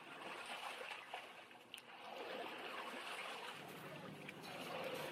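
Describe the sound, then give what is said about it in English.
Steady running water flows throughout as a boat is rowed slowly towards the listener; a few soft splashes from the oars break through the continuous watery wash. No one speaks. “The crackling of the flames stopped, and he heard the sound of running water and a boat being rowed slowly towards him.”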